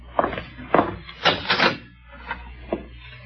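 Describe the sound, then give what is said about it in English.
A heavy cellar door being opened: a series of creaking, rattling clunks over about three seconds, moderately loud, fading to a quieter knock at the end. No one speaks. “Let's see, the door to the cellar's over here, isn't it?”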